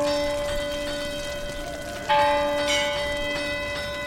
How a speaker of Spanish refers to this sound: Esta señal era captada desde el campo de San Roque, donde se tocaba la campana de la ermita para avisar a los pescadores.